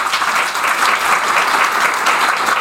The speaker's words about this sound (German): Erstmal müssen wir herausfinden, wie klingt das, wenn alle klatschen? Sie müssen jetzt erstmal alle einmal ganz laut klatschen.